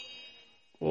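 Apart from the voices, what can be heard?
bell being rung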